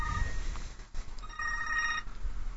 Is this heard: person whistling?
no